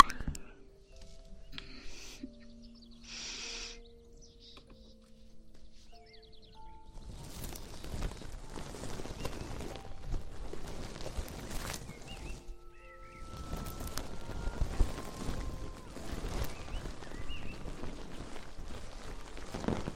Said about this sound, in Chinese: 让你们听一下鹅毛棒的声音啊。